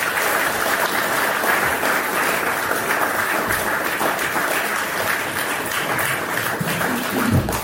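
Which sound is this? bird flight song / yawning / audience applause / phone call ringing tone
audience applause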